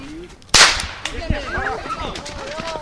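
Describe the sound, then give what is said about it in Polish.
A single sharp starter pistol shot, fired by the voivode to start the youngest participants' race at the 4th Constitution Run, cracks out loudly, its burst trailing off quickly, followed by overlapping voices calling out and chattering. “Patrzcie, tutaj będzie strzał i wtedy biegniecie.”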